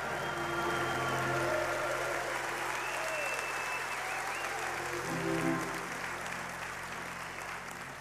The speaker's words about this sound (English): Oh, church, taste and see that the Lord is good. Give him a hand clap and a shout in this place today.